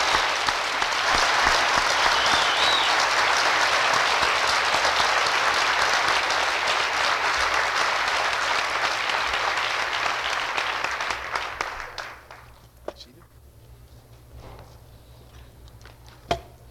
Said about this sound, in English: Please applaud the degree recipients of the college.